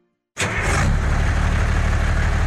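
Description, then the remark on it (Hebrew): An old diesel vehicle engine starts up abruptly and settles into a loud, steady idle with a low, rhythmic rumbling chug, continuing without pause. “דיזל ישן מקצר חיים. ב-1 בנובמבר יחויבו בעלי כלי רכב דיזל מזהמים בהתקנת מסנן, תנאי לחידוש רישיון הרכב.”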